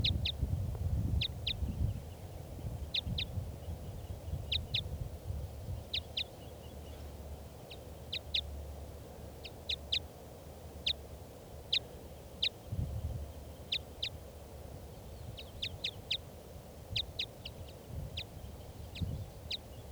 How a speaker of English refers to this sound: recording this, the wild bird.